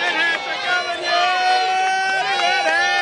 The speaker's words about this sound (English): It's a classic small-town parade, complete with fire engines, veterans organizations, and a float by the high school swim team.